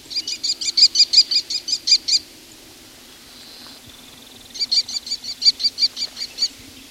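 Two bursts of American kestrel calls, each a rapid string of about ten shrill, high-pitched 'klee' notes, separated by a short pause. No voices accompany them.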